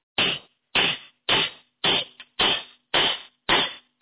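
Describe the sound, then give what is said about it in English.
A hammer strikes seven times in a steady, even rhythm, each blow a loud, sharp bang that quickly fades, with no voices in between. “Hammer fixes everything, so let's try hammer.”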